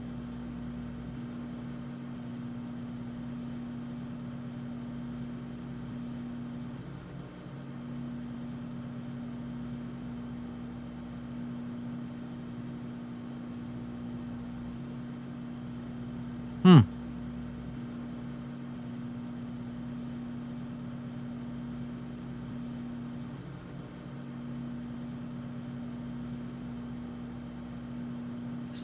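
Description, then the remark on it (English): A microwave oven runs with a steady, low electrical hum that holds unchanged for the whole stretch, broken once near the end by a single sharp click. No one speaks. “Oh yeah, now we have to wait for the microwave to finish.”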